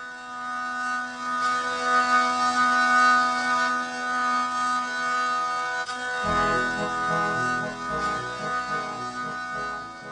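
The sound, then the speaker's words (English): A medieval stringed instrument plays alone, its constant wheezing, buzzing drones cranked out beneath a melody played on an attached keyboard; partway through, a deeper drone shifts in as the tune continues, steady and fairly loud throughout. “is a medieval stringed instrument with constant wheezing drones that are cranked out under melodies played on an attached keyboard.”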